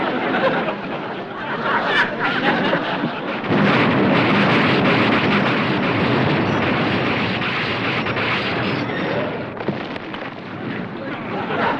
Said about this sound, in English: You, my friend, just blew up a 10-car munitions train headed for the Eastern Front.